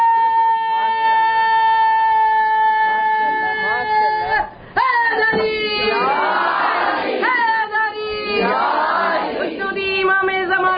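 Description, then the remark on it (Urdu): A large crowd chants salawat in unison, sustained voices holding long, steady tones, then breaking into louder overlapping shouts and cheers in two swelling waves, loud throughout. “تو یہی سلوات ہے.”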